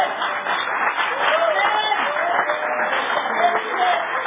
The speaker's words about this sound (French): Vous ne voulez pas applaudir les sœurs. Hein?